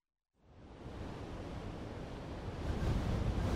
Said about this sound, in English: It's windy and it's really cloudy today.